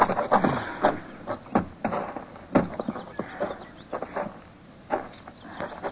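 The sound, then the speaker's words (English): Horse hooves clop irregularly, a handful of sharp thuds on hard ground that slow and scuffle as riders rein in and halt their horses by a cabin, with faint outdoor ambience behind. “Pull up, boy. Oh. Oh. Let's leave the horses here.”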